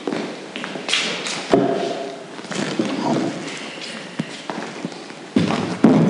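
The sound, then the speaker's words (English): Heavy thuds and scraping knocks as chairs are taken and shifted as an example during a Bible talk, several irregular bumps over a few seconds with faint room noise and shuffling footsteps. “I'm going to pinch some chairs.”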